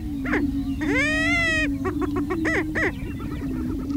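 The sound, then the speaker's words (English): Male prairie chickens call at sunrise in tall grass, bright orange air sacs showing on their necks: a steady low droning hoot runs throughout while loud, rising whooping calls and quick cackling bursts break in over it, with no talking. “Bright orange spots appear on the sides of their necks as they call out.”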